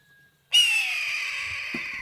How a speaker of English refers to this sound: the raspy scream of red-tailed hawks are often dubbed over clips that show other birds in flight